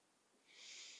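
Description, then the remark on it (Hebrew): An airy, deep breath drawn in through the nose, as if smelling a flower, during a guided breathing exercise, starting softly and swelling into a steady hissing inhale that holds to the end, with no talking over it. “אולי עוד אחת כזאת טובה, שאיפה, כמו שמריחים פרח.”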